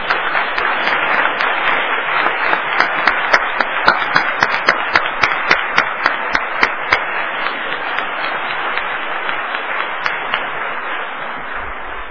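A church audience applauds warmly for about twelve seconds, honouring the choir for a CD they made together. A dense wash of clapping with sharper rhythmic claps standing out in unison, gradually thinning toward the end.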